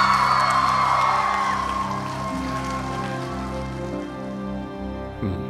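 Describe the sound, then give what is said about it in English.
A youthful crowd at Saddleback Church in Southern California applauds and cheers a speaker, a dense wash of clapping with whoops rising above it early on, then slowly thinning and easing off toward the end. “That youthful crowd at Saddleback Church in Southern California shows their appreciation for our speaker today”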